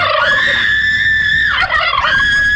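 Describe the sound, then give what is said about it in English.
A turkey gobbles loudly, a sustained warbling, rattling call that wavers in pitch with a brief break near the end, no voices present. “But remember, before cooking your annual Thanksgiving dinner, please be sure your turkey is ready.”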